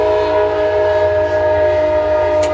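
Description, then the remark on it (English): A passing train next to the speaker's home sounds its horn in one long, loud, steady blast that holds for the whole moment, with the low rumble of the train underneath and no one speaking. “Talk about trains. I did say I live next to a train.”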